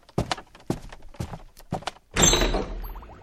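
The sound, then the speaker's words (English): Several thudding steps as people go down to the lab, then the door swings shut behind them with a loud, heavy thump. Its rattle and rumble fade over the next second. No one speaks. “Close the door behind.”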